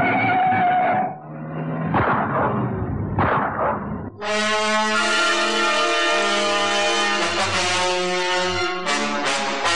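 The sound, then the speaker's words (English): A red Fleet Wing car roars past at speed in the Northern Suburbs at 7:53 a.m., loud: a few rough surging bursts, then a sustained, strongly tonal engine howl that holds for several seconds before cutting out briefly. “The red fleet wing roars into view.”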